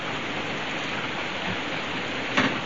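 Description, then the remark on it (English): Steady, dense hiss of rain falling, even and continuous throughout, with a brief sharper burst of patter near the end. No voices are heard. “But tomorrow you'll say that rain stopped play.”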